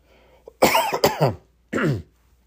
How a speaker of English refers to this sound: Excuse me while I cough.